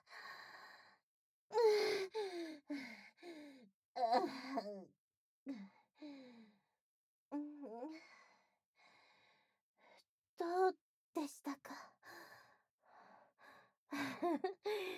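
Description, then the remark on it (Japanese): A man pants heavily against someone's neck. The breaths come in irregular bursts, with voiced sighs and sharp gasps between short pauses. The breathing is fairly loud, and no clear words are spoken. “もう息荒げすぎですよ。首筋にまでハァハァってオスの息当たってます。”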